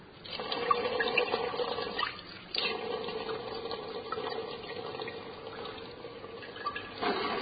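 Water is poured steadily into a graduated measuring cylinder to measure out 5 ml: a continuous trickling stream with a brief pause partway through before flowing on again. No one speaks.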